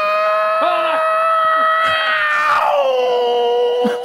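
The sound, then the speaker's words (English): A voice imitates a car stalling with a sustained, strained droning tone that wavers, then drops lower and sputters out near the end, where the imitator gets a cramp and the car stalls. Loud and continuous, with no other talk. “And then at the end, can we just hear when the cramp happened just, and the car stalled?”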